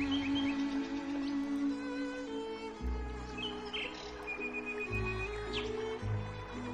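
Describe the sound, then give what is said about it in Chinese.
Crisp birdsong chirps and tweets in spring over a steady, sustained tonal background that shifts in pitch, the bird calls light and fairly faint, scattered through the passage with no voices. “清脆的鸟鸣，滴落一路的翠绿。”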